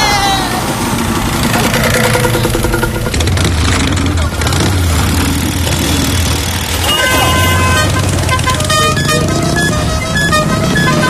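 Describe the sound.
A motorcycle rides through busy traffic in Bamako, Mali, its engine rumbling steadily while car horns toot repeatedly, with loud street noise and voices mixed in.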